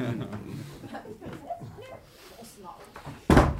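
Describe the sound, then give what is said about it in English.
Low murmuring voices and soft chuckles, then a single sharp thud as a door opens or closes near the end. “Come on, it's the second door on the left.”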